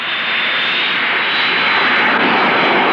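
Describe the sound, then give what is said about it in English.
A propeller plane's engine roars steadily and loudly for a few seconds, a dense, continuous drone with no voices, as the aircraft comes down fast. “Does the plane always come down this fast?”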